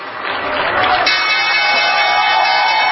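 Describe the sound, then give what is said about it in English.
A crowd cheers and shouts loudly and steadily at the closing bell on Wall Street on a Friday, a dense wash of many voices with a sustained ringing tone emerging partway through and holding to the end. “Those cheers at the closing bell might very well be cheers of thanks that the week is over.”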